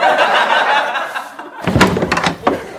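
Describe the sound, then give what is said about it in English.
A door opens with a few knocking, clattering thumps as someone comes in without knocking, following a steady wash of background noise. “Does anyone knock anymore?”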